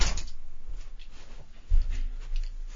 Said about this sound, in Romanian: stai să închid ușa.